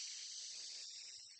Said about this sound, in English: But before I do that, let's do a thankful for deep breathing, double inhale through your nose, out your mouth. Here we go. 3, 2, 1, big inhale.